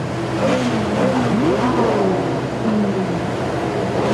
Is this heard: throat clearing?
no